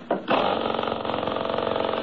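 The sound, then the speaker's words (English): A car engine catches after a brief burst of cranking, then settles into a loud, steady run with a rapid, even mechanical throb. No one speaks. “Hey, listen to this engine run, will you? Here, I'll start it again.”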